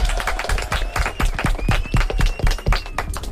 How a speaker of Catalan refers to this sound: Uau! Vinga, un aplaudiment!